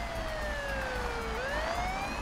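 police car siren

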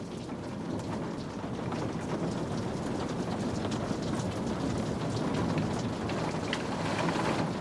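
rain falling

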